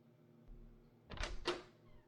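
A door being opened: two quick, rough bursts of latch and hinge noise about a quarter second apart, against an otherwise quiet background with a faint low hum.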